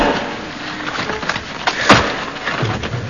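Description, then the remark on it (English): Wood creaks and splinters as a crowbar forces a wooden door open because the key was lost, with a sharp crack near the middle and scraping, groaning strain before and after. “Now, where's that crowbar he gave us to open the door with because he's lost the key? Here it is. Just wedge it in the door.”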